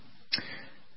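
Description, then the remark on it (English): A single sharp metallic clack of loose parts of a semi-automatic gun with military heritage, followed by a brief faint rattle from its loose tolerances that quickly dies away. No one speaks. “You can hear a little bit of a rattle, which just makes me nostalgic.”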